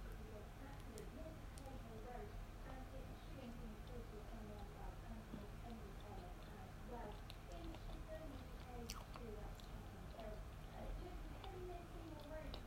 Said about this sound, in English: Hope the chewing's not too awful.